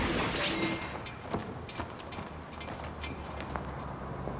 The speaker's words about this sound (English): Caleb hears a clanging noise and fires his gun in that direction.